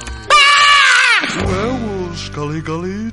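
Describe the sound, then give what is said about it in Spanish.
A sudden, loud, high-pitched scream, a jump-scare effect added to a homemade scary video, bursts in and holds for about a second, then drops into lower, wavering vocal moans that trail off near the end. “Otro susto así, espantapendejos, de susto así, de grito de repente aquí.”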